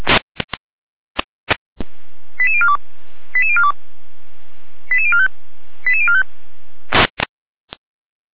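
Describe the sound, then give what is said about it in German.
Radio alerting tones for an emergency dispatch to a traffic accident on the L1093 at Blankenberg toward Blankenstein. Four short sequences of stepped, descending beeps play over steady radio hiss, framed by sharp static clicks and bursts before and after. “Deutsche Legierung mit Alarmierung.”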